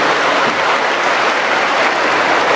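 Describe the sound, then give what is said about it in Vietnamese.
A large crowd at Đồng Tiến church applauding loudly and steadily to welcome visitors from other places, a dense wash of many hands clapping at once that holds at full strength throughout, with no voices rising above it. “Wow, chúng ta một tràng pháo tay thật lớn chào mừng tất cả những anh chị em ấy.”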